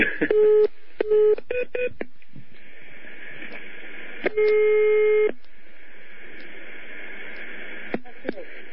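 Electronic telephone tones of an incoming call: a quick series of short beeps, then after a pause a single longer tone, heard clearly over a steady hiss like a phone line.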